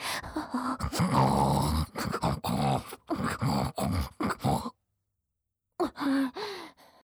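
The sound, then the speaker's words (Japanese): A human voice imitates a pig, making a rapid series of loud, harsh nasal snorts and grunts, then pausing briefly before a few more breathy grunts. “下品な豚鼻声さらして興奮してしまうダメ豚に”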